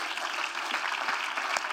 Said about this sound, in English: Come on and clap your hands to the Lord, everybody.